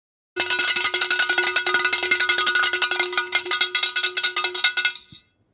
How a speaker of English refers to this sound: what typically happens after that bell?